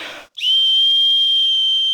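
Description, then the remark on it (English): A single loud, sustained high-pitched whistle blast used as a code 2 alert signal, warning that someone is being detained or aggressively handled by ICE agents, held steady for well over a second, after a brief burst of breathy noise. “you can now hear whistling in many of the videos of ICE activity popping up on social media”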